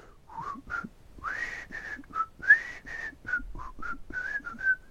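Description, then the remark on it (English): Someone quietly whistles a soft, meandering melody, a string of short pitched notes with breathy edges, fairly quiet, with no talking. “Like that, I'm whistling. It's like quietly whistling.”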